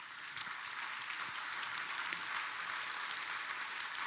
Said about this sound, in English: Anyone else? Let's just give applause for these that are responding.